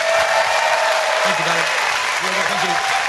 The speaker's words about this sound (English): Ladies and gentlemen, please give a massive round of applause for Brady.